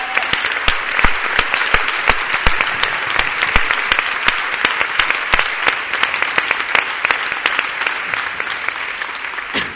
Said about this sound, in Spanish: i els demanaria un aplaudiment brutal per elles.